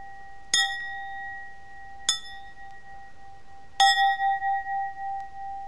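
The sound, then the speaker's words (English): A brass bell with an Asian-themed design is struck three times at uneven intervals, each strike leaving a clear, sustained ring; the third hit is the loudest, its tone wavering as it slowly fades. “And Sunshine is playing with the bell. You gonna ring the bell?”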